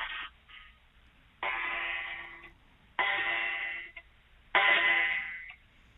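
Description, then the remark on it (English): An old vintage wall clock strikes four o'clock, four bright, ringing chimes landing about one and a half seconds apart, each fading before the next, with no voices over them. “Well done, four bells.”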